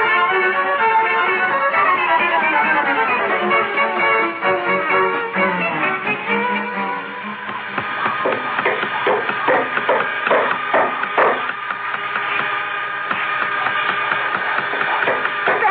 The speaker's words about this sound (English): Oh, close the door to the workshop, please. I can't hear myself think.